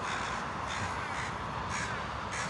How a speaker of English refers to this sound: Four birds. They're gathered now on the high fence of the baseball field. Just talking, so animated. So excited to be alive. So full of energy.